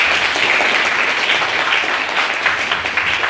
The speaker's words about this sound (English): Round of applause for our maiden speaker.